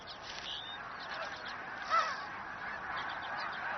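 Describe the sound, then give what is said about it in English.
Geese honk steadily across open tundra nesting ground in summer, a layered chorus of calls with one brief louder honk standing out near the middle. No voices are heard. “Here, geese can nest on the ground in relative safety.”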